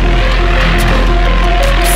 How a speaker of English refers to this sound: Hear it as a radio hiss.